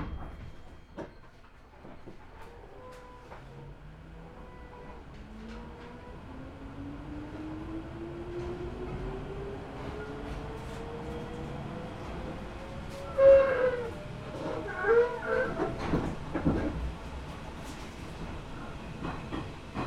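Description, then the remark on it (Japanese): An electric express train bound for Osaka-Umeda pulls away on its rails, a motor whine climbing steadily in pitch over a low rumble, with bursts of wheel clatter over the joints as it gathers speed. “車は大阪梅田行き9号です。次は向こう側に停まります。”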